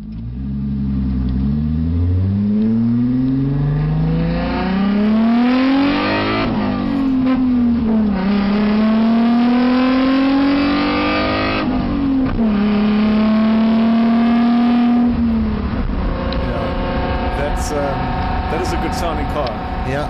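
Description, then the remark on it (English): The 3-liter V6 engine of an Alfa Romeo GT road car pulls hard, heard onboard from inside the cabin, its loud, throaty note climbing steadily and dropping back at three gear changes before settling into a steadier drone. “that was inboard, onboard footage of a road car driving”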